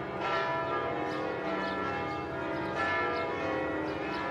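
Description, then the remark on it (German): Funeral bells of the Madeleine church in Paris toll continuously on 10 January 1971, several bells ringing together in a dense, sustained wash with overlapping strikes and long resonant decay, fairly loud, with no voices present. “Am 10. Januar 1971 läuten die Glocken der Pariser Kirche Madeleine. Es sind die Trauerglocken für Madame Coco Chanel.”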